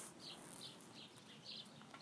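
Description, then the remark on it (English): Birds chirping outdoors in a park by the water: several short, high chirps recur at irregular intervals over a steady hiss of ambient noise, faint. “And there might be background noises, people talking, the birds, boats coming in and out.”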